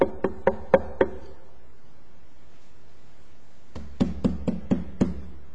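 Two series of sharp knocks on a door: five quick raps, a pause of a few seconds, then another rapid run of about six knocks. No voices accompany them.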